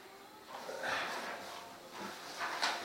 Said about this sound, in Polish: Nawet ktoś puka.